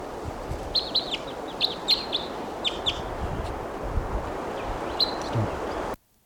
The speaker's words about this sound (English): And that last wild bird got away. And meanwhile, here's another bird coming in. The decoys there.